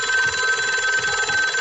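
A telephone bell rings continuously and loudly, its rapid trilling pulse steady throughout with no pauses and no voices.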